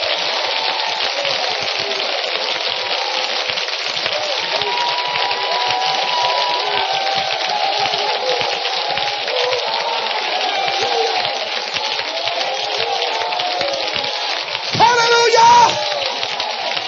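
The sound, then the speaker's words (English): A church audience claps their hands during a sermon in a dense, steady wash of applause that runs throughout, with faint voices calling out underneath and a brief louder swell near the end. “Clap your hands.”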